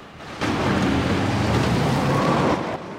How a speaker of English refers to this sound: Guzman drives into the creek and tries to follow, but the green car gets stuck in the mud.